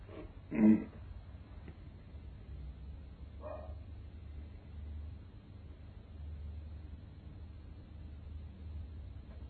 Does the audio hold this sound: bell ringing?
no